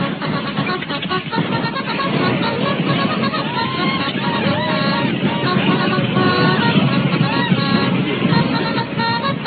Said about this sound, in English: Bugler, sound the call to mount. Yes, sir.